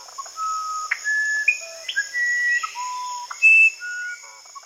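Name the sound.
musician wren song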